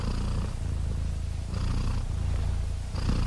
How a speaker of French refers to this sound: Qu'est-ce que signifie le ronronnement pour les chats?